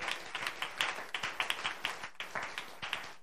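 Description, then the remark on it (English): An audience gives the Lord a hand clap of praise during a sermon, a dense, steady patter of many sharp claps blending into moderately loud applause with no voices heard. “Could we give the Lord a hand clap of praise?”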